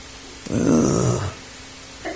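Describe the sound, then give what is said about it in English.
A single loud sneeze bursts out in under a second, breathy and rough with a low voiced edge, then fades to quiet with a small sound shortly after. “Ugh. Bless you.”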